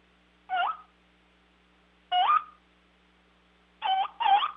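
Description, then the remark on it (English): Soft turkey clucks made on a turkey call, the softer cluck used as a gobbler gets closer: four short, sharp notes spaced irregularly, the last two coming as a quick pair, with no talking over them. “As he gets closer, you can drop back to a softer cluck. Let me do that for you.”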